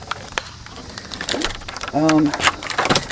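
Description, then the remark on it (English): Metallic jingling and clicking of keys, irregular bursts of bright rattles over a few seconds, with a brief voiced sound partway through. “Where's my key? Where are my keys? They're my key.”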